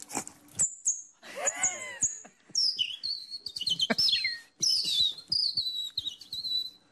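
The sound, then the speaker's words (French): A European robin sings in clear, varied phrases of high, thin whistles and quick trills, pouring out one short burst after another with brief pauses between. “Rouge-gorge.”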